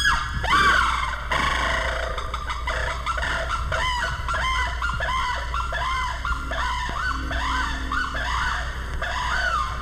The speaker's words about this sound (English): The shrieking call of the saris crane.